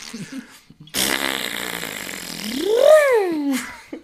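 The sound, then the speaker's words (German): A long, loud fart sound that starts abruptly and sputters for about three seconds, ending in a rising then falling squeaky, almost melodic whine before cutting off. “Entschuldigung, ja, ich bin Flatulist. Ist einfach so, kommst du immer in die Bahn. Hallo, mein Name ist …. Ich habe da was vorbereitet.”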